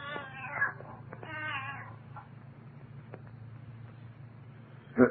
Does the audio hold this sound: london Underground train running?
no